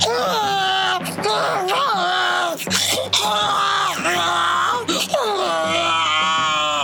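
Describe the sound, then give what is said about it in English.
A voice imitates a baby's shrill, wailing screech, sustained and loud for several seconds in rising and falling bursts, with strong harmonics and no other talk. “And the babe, …, its screech.”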